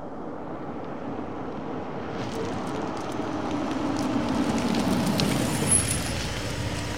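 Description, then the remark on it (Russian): A foreign-made car rolls up along a road with a steady engine rumble that swells as it approaches, then slows to a halt beside a man with a brief, high brake squeal near the end. “И действительно, почти сразу около него затормозила иномарка, в салоне которой сидели два плотных парня.”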